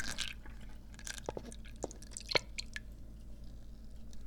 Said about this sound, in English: And now we pour. Get in there.